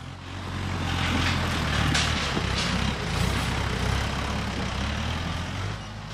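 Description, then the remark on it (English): A big tractor's heavy diesel engine rumbles steadily and loudly, with a deep low drone and a broad mechanical roar that swells briefly, no voices heard. The tractor is hauling logs along a pathway into the woods at the Sweden Creek mushroom farm. “Like the big tractors that haul logs along a pathway into the woods so they can rest and grow mushrooms.”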